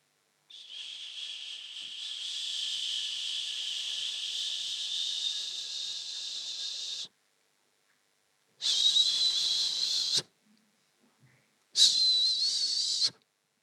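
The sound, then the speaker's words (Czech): Air hisses out of a deflating balloon with a high, whistling squeal: one long steady stream of several seconds, then two shorter bursts after brief pauses, with no voices. “Balón se začal pomaličku zmenšovat.”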